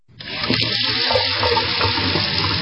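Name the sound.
water running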